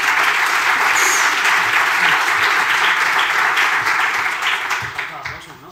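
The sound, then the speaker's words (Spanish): Sustained audience applause, a dense crackle of many hands clapping at steady loudness for several seconds before tapering off toward the end. No voices stand out over it. “Un aplauso, por favor.”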